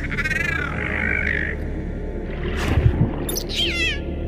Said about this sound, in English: This cute creature is about 3 feet tall and makes these little chirps that display its mood.